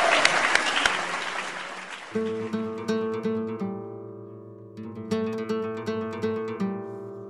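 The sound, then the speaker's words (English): An audience at the Stoop Storytelling show claps loudly in a dense burst for about two seconds after a story, then the applause gives way to a steady, rhythmic musical piece with sustained tones. “Clap for that.”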